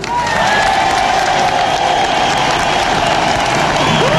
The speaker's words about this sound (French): Je vous propose de vous applaudir.